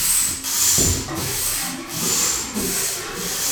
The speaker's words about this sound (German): Ratzen. Wie eine Säge.